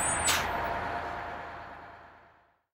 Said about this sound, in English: Oh, good. Here comes our bus now.